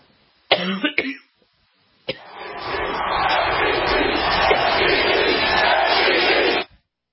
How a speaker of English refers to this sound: MVP, and you know what they were yelling. MVP, they were yelling MVP for LeBron James because he truly was amazing.